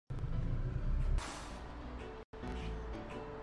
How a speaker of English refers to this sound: Bus is arriving at bus stop.